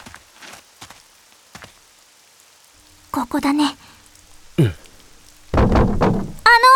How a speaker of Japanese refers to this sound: また降り出したね、雨。 そうだね。